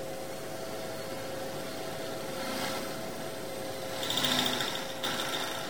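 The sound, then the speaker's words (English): A steady electric blender motor, making a smoothie, whirs with a constant hum, surging louder and harsher twice, briefly near the middle and more strongly toward the end, before settling back to its running drone. “Where's the blender? I fancy a smoothie.”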